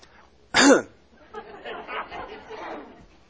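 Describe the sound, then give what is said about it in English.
A single loud, harsh cough bursts out as a person chokes on a piece of parsley dipped in salt water, followed by a low murmur of voices and quieter throaty sounds in the background. “I really went down the wrong way. Okay, so I'm going to be coughing here for the next 10 minutes.”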